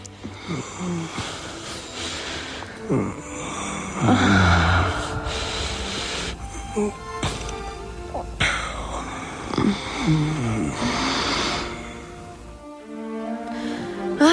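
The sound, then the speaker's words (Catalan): A passionate lovers' kiss: wet smacking lips mixed with heavy breathing, gasps and muffled moans, running continuously for several seconds without any clear words. “Però el bes aclamat, esperat, desitjat, és el bes de l'amant, apassionat, fogós, un bes que sonaria més o menys així.”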